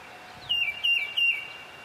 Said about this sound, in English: This is a common feeder bird, the tufted titmouse. It says, "Peter, Peter, Peter." But what are birds really saying? Well, it's mostly males singing, and it comes down to mostly two things, either stay away or looking for love.